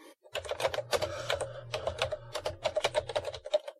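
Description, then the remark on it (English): Rapid, loud clacking of a computer keyboard being typed on in quick irregular bursts, with a low steady hum underneath and no talking. “Keyboard of death.”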